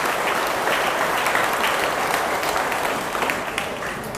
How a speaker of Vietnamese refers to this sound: Thế vậy hãy dâng cho một tràng vỗ tay cho những người nhớ đúng cả bốn nội dung.